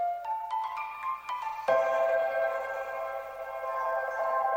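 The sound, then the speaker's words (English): Generative electronic music: tones with short percussive pings for about two seconds, then a sustained, harmonically rich drone swells in and lingers, smeared by heavy delay and reverb controlled by a simulated starling murmuration's bird cohesion and separation. No voices. “A murmuration-determined delay. A reverb impulse response controlled by bird cohesion and separation.”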